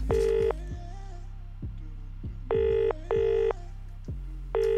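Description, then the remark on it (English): Electronic telephone tones sound in short, loud bursts, a few evenly spaced beeps over a steady low hum, with no one speaking, as a call is dialed to a major supermarket and connects. “Do you want to give them a call?”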